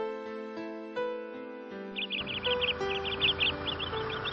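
A sparrow chirps in quick bursts of short, bright notes, repeated in small clusters from about halfway through, layered over soft sustained background music.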